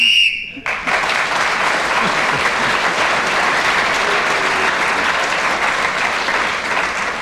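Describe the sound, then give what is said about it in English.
A sharp, steady whistle blast lasting under a second, blown to end the round, immediately swallowed by loud, sustained applause from a large audience that carries on to the end. “Clement Freud speaking when the whistle went, then increased his lead at the end of that round.”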